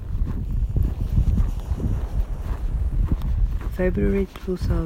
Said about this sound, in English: February 2022, Crete. Today it is a bit windy. It is kind of an early evening and cloudy.